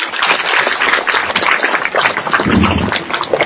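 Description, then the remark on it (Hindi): An audience claps loudly and steadily for a few seconds as a guest speaker is introduced, a dense, crackling wash of many hands with no pauses and no voices. “जोरदार ताली।”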